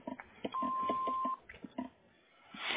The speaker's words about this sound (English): Thank you for calling Economy Precast. After the tone, please leave your name, telephone number, and a brief message.